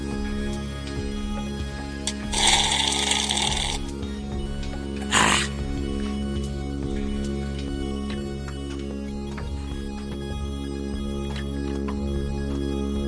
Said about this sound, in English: I gotta take a sip of my coffee. It's just been sitting here.